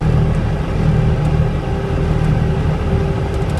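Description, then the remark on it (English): A car stuck in snow revs its engine hard and steadily, a loud continuous low rumble with a droning mid-pitched whine and no voices over it. “She gets her car stuck in there, just standing there.”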